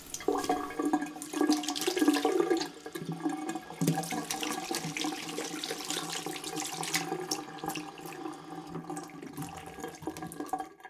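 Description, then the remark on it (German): Running tap water splashes steadily into a sink for several seconds, with shifting gurgles and splatters as vegetables and lettuce are rinsed under the stream. No one speaks. “Zuerst müssen wir das Gemüse und den Salat waschen. Einfach unter fließendem Wasser im Spülbecken.”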